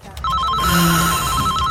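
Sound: telephone bell ringing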